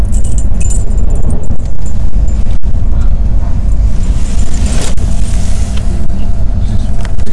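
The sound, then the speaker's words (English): Keys jangle as they're handed over, a bright metallic clinking over a steady, loud low rumble, like a running vehicle, with no talking. “Before we go out, here you go. Here's keys.”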